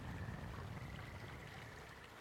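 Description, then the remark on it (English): A steady, continuous rush of flowing river water as a man walks by the river, with a soft, even wash of noise and no voices throughout. “He walks by the river.”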